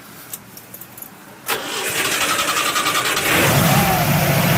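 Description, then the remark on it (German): After a few faint clicks, the engine of a 1978 Zaporozhets car cranks and catches with a sudden loud roar, runs with a rough rattling idle, then revs louder near the end as gas is given, in bright sunshine in Leipzig before a test drive. “So, Achtung, wir starten mal das Auto.”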